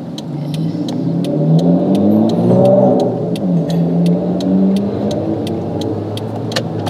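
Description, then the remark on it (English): A car engine revs up and accelerates steadily to pass another car stopped on a highway, its rising drone loud from inside the vehicle, with a faint regular ticking running throughout and no one speaking. “Oh, I feel like we're going to have to around this car.”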